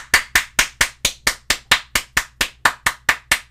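A single person claps their hands in a steady, even rhythm, about sixteen sharp, bright claps over a few seconds, each one crisp with a quick decay. No one speaks.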